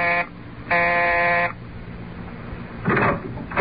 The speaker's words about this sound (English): But let us return to the present, and reporter Luke Harvey pressing the bell marked Staley, landlord, in his brownstone house.